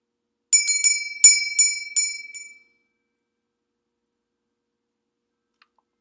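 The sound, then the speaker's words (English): A small bell chime struck several times in quick succession, bright and high-pitched with a shimmering ring that fades away after a couple of seconds, leaving silence with no talking. “A little silent closure in bell time, calling on the Spirit to close our love of humanity going out each day.”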